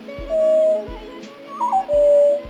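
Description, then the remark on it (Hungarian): A Eurasian golden oriole gives a clear, fluty whistled call: sustained mellow notes with a quick warbling flourish in the middle, over soft, regularly spaced low thumps. “A sárgarigó nem a rigófélék, hanem a sárgarigófélék családjába tartozik.”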